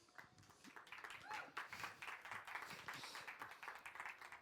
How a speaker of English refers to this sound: Big applause for those two.